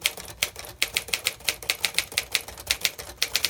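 typewriter keys clacking

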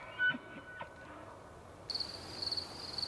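crickets chirping

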